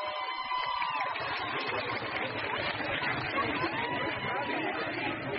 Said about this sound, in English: Over the past few days, we have seen these scenes of massive crowds of women protesting in the street, marching, chanting, yelling at police, and breaking the laws around their hair.